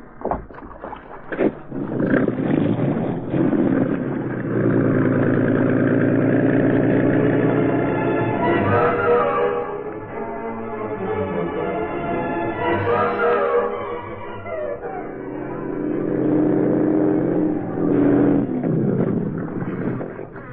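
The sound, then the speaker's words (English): A speedboat engine, the boat tied to a dock at the foot of 23rd Street, runs steadily and loudly for about twenty seconds, its droning hum rising in pitch as it revs a couple of times before settling back. “he found the Green Hornet waiting for him in a speedboat tied to the dock.”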